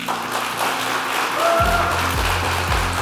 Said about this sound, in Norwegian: La oss gi dem en god applaus.